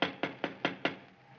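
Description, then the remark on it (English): Five firm knocks rap on a wooden door in quick, even succession, fairly loud, followed by a short quiet pause with no voices. “Go ahead and knock. Okay. I wish they'd hurry.”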